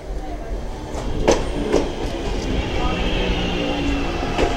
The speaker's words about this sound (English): So we're going to get our train home now. Yeah. Little last record. There's nothing like hearing a train coming in. Well, there is. A lot of things better than hearing a train coming in, but it's a good bet the one going out, yeah. Here it comes.